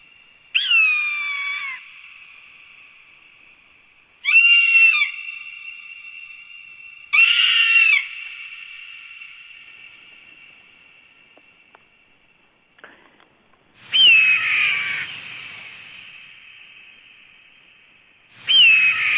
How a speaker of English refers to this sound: So before we use human words to talk about the book, let's listen to some hawk sounds for a few seconds.